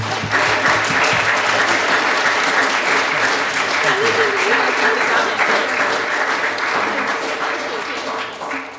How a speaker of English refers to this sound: And otherwise, I'd just like to, I'm going to say a couple of things after this, but I just want a big, massive round of applause, or applause, a clause, no clause, applause!